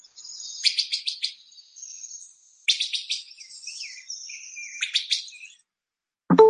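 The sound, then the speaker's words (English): A wood thrush gives three quick, clear machine-gun rattle bursts, separated by thin, high drawn-out notes. A short low thump comes right at the end. “And I also want to play you a call that some of you will hear of the wood thrush. It's some people call it the machine gun rattle.”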